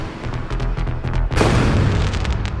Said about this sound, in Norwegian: Fyrverkeriet smalt og sprakte i en eksplosjon av farger over det mektige Fredriksborg slott